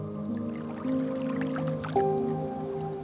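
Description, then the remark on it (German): Gentle splashing of river water with small scattered drips and trickles, quiet, over a steady soft tonal hum. No one speaks. “Du hörst das sanfte Plätschern des Wassers.”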